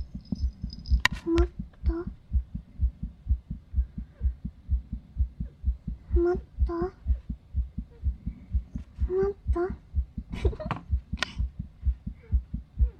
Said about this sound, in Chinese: 这是我的心跳哦。心慌，别的没有什么，也没有心律不齐，也没有什么东西，都是好的。